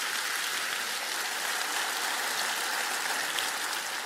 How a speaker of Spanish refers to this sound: Dígame dos veces, una alaba al Señor con un aplauso más.